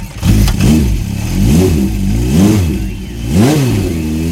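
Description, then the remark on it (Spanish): A motorcycle in very bad condition revs up and drops back about four times in a steady rhythm, loud, with a rough, sputtering tone and no voices. “Esa moto está en muy mal estado, pero no se preocupe, don Bobo Raro, que las cosas del espíritu y los objetos motorizados no tienen secretos para mi ciencia.”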